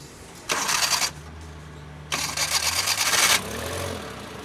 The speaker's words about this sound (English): When he had finished installing a new set of spark plugs, he nodded for our driver to start the engine.